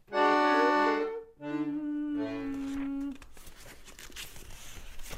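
A voice sings sustained notes, then soft papery rustling follows as the pages of Hölderlin's Hyperion are leafed through, a light, irregular crinkle lasting a couple of seconds.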